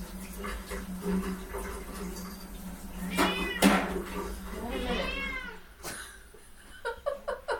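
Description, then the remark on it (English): A cat meows insistently and impatiently for food, letting out two long, drawn-out wailing meows followed by a few shorter chirpy calls over a steady low background hum. “I wouldn't like that if I were a kitty cat.”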